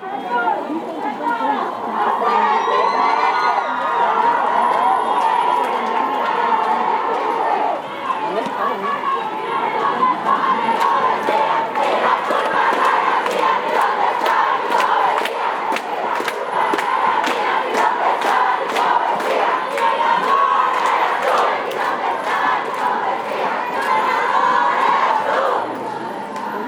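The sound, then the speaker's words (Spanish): A large protest crowd chants in unison the feminist anthem "Un violador en tu camino", a steady rhythmic chant sung by many voices at once, loud and continuous for the whole stretch with sharp percussive beats punctuating the chant. “En el año 2019 en Chile, el estribillo "Un violador en tu camino" se replica en Nueva Delhi, México y Bogotá, y hoy es replicado en todo el mundo.”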